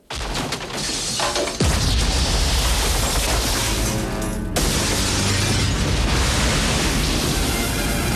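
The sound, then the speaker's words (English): A sudden, heavy explosion bursts through the glass of a huge aquarium in a restaurant, shattering it, then gives way to a loud, continuous roaring rush of water flooding the restaurant that carries on for several seconds without letting up. No voices are heard. “Ethan leaps through the shattered glass frontage and sprints away across the cobbled square, just in front of the spreading wave.”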